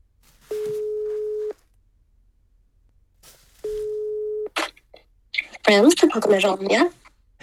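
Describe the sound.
Two steady, mid-pitched telephone ringback tones, each about a second long and separated by a pause, followed by a person answering and starting to talk.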